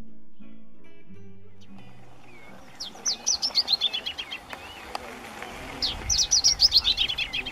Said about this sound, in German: Die Vögel zwitschern, es ist ein sonniger Nachmittag in Patagonien.